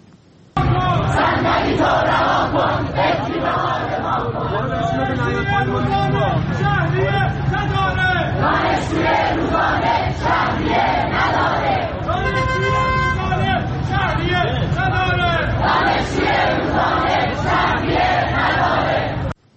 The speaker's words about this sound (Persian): در اینجا هم از تجمع شماری از دانشجویان دانشگاه تهران در اعتراض به وضع شهریه دروس جبرانی ویدیویی رو میبینید و میشنوید.